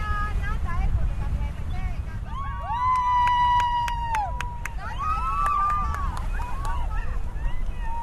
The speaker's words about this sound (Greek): Οι επιβάτες χειροκροτούν. Περίπου 30 δελφίνια βρίσκονται κοντά μας.